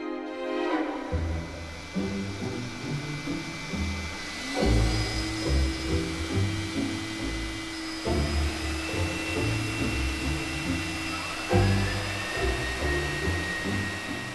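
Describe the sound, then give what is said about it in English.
Malcolm Arnold's A Grand Grand Festival Overture, scored for symphony orchestra, three vacuum cleaners and an electric floor polisher, plays loudly, the orchestra over the steady whine and roar of the vacuum cleaners and floor polisher, their motor pitches rising and holding as new machines switch on partway through. “We failed to mention Arnold's A Grand Grand Festival Overture, scored for symphony orchestra, three vacuum cleaners, and an electric floor polisher.”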